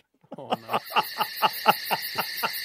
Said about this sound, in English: Have you got crickets sound effects?